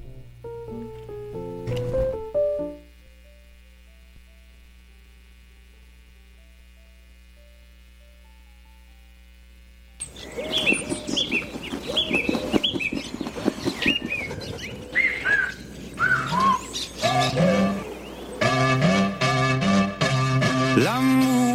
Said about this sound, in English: Let's kick things off with the first song track I prepared for you.